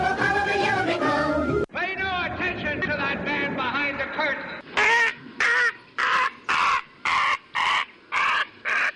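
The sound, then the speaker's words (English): A bird caws loudly and harshly about eight times in a steady, evenly spaced rhythm, following a stretch of busy tonal sound that breaks off abruptly. “Yes, that's the Marxist bird at the very end.”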